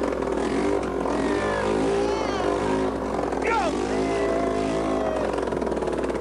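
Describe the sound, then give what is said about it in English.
A loud, raw engine with no exhaust fitted roars continuously, its pitch rising and falling as it revs, with a brief shout cutting in over the din. “Who needs an exhaust? All right. Meant to make a noise.”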